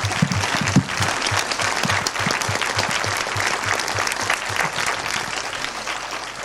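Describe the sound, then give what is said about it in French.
An audience breaks into sustained applause for a group of women, a dense, steady wash of many hands clapping at full volume for several seconds, with no voices standing out. “Allez, mesdames, vous avez le droit aux applaudissements pour votre...”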